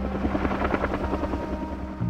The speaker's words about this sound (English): and then the helicopters started coming in.